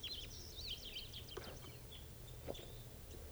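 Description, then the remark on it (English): Quick, high twittering chirps from a male-female pair of lovebirds, densest in the first second and then scattered, faint over a steady low background hum. “Lovebirds. It's a male female pair.”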